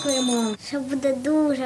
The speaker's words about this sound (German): Dann klingeln traditionell die Schulglocken.